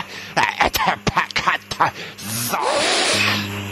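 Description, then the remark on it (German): A stuck door gets rattled and yanked, with a quick run of irregular clattering knocks followed by a longer scraping, grinding noise over a low steady hum. “Wie geht denn diese vermaledeite Tür auf?”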